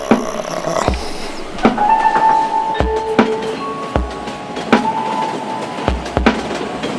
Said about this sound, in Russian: Едет, катится, зарешоченный вагон.